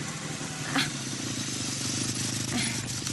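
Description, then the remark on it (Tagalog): A motor tricycle engine idles with a steady low chugging rumble as it stops in front of a fence with many plants, joined by a couple of faint brief clicks. “Manong, pakihinto na lang po tong tricycle dyan sa tapat ng bakod na maraming halaman.”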